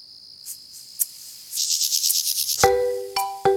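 A mole cricket's steady, high buzzing trill, fairly faint and without speech, gives way to rapid pulsed chirping, from a small population of mole crickets in the UK. A few sharp knocks and brief ringing tones follow near the end.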